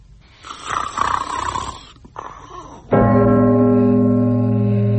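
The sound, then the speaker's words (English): A loud snore, likely voiced by a person imitating it: a rough, rattling breath for a few seconds, then a steady, buzzing drone that holds strongly to the end. “He sat up in bed suddenly in the midst of a prodigious snore.”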